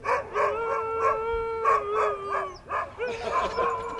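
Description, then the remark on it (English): Several excited sled huskies of a husky club in Kalamazoo howl and bark together as they are taken for a run, overlapping sustained wavering howls with short yips, loud, continuing steadily with no pauses. “This past weekend, I rode along with the Husky Club while they took a few very excited dogs for a run.”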